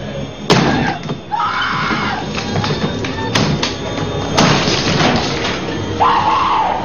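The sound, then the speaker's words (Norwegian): An axe hacks at a neighbour's wooden door in a few heavy, irregularly spaced blows that crack and splinter loudly, while a frightened voice cries out between the strikes. “slår løs med denne øksa di på døra til naboen din.”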